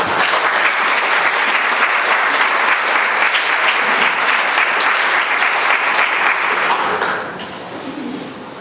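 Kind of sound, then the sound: crowd, audience applause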